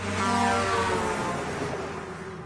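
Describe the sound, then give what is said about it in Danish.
A truck engine drones steadily, a deep rumbling hum with a broad roar of road noise, holding loud and even for a couple of seconds with no voices. “I lastbil.”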